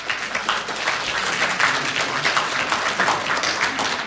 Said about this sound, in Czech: Já vás klidně poprosím o povzbuzování, máte tady svoje koně. Takže určitě váš potlesk je podpoří.